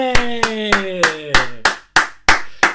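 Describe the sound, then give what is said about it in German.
Applause for a teacher: nine sharp, evenly spaced claps ring out in a steady, loud rhythm over a sustained tone that slowly slides downward in pitch. “Also alle machen eine riesige Laola-Welle, gefolgt von einem Applaus für eure Lehrerin.”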